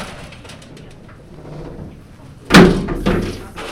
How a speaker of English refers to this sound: To get to them, you have to go through a series of heavy gates and doors.